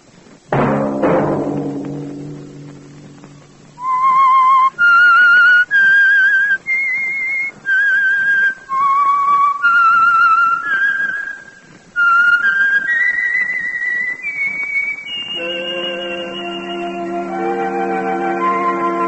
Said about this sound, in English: That whistle be your signal for the Signal Oil program, The Whistler, each Sunday night at this same time